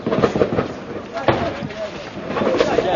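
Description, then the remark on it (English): Bursts of intense gunfire as rebels advancing on Tripoli come under fire a few hundred meters past the town of Maya: loud, sharp cracks arrive in clusters at the start, once mid-way and again toward the end, over a rough, noisy background with voices mixed in. “But just a few hundred meters further on, we come under intense fire.”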